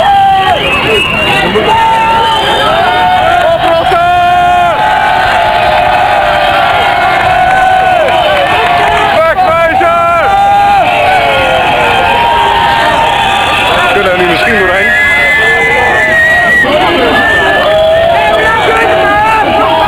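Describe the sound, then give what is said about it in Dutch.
A large demonstration crowd of an estimated 600 people roars continuously, with many overlapping voices shouting and cheering in a loud, dense babble that swells and surges without pause. “En op zich zijn er echt ontzettend veel mensen in de demonstratie.”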